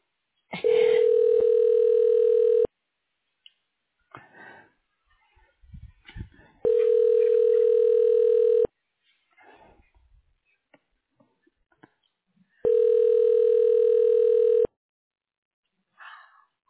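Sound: telephone ringback tone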